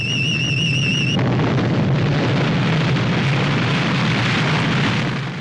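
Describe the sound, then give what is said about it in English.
A loud explosion sends a torrent of rock down, opening into a continuous roaring rumble of falling boulders and debris, with a brief high electronic warble fading out right at the start. “A huge explosion sends a torrent of rock down on the Capellans. Falling boulders crash down on them.”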